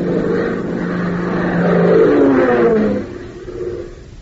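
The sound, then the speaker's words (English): A Beechcraft aircraft engine roars in a steady, droning tone as the throttle is opened wider, flying through the late morning sky, swelling louder with a rising pitch midway through before dropping back to a lower hum. No one speaks. “so opens the throttle wider, sending the beach craft roaring through the late morning sky.”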